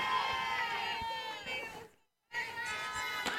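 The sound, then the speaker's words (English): A crowd at a regional championship softball game: a steady wash of many voices with high-pitched shouts and chatter, cutting out briefly in the middle before resuming at the same level. “Good crowd on hand for this regional championship game, as both teams really have something that they want to prove”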